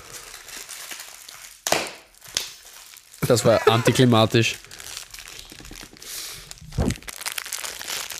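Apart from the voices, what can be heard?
rustling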